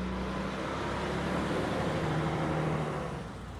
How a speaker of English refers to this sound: It's back-to-back traffic, and I just want a parking spot.